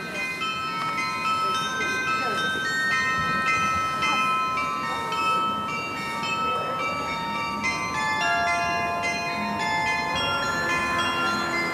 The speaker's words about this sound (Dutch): Ik vind het ook een heel leuk melodietje eigenlijk. En hij is best wel zuiver voor klokken.